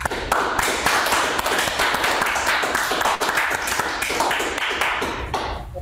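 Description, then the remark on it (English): A sustained burst of applause from a group at a group meeting, thanking a speaker after his talk, dense crackling claps holding steady for several seconds before stopping abruptly, with no voices heard over it. “But let's thank give him one more round of applause.”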